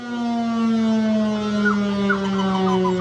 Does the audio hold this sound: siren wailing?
yes